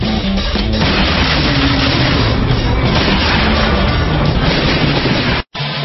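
Loud, sustained gunfire in a dense, rapid barrage that blurs into continuous booming noise, cutting out abruptly for a split second near the end before resuming.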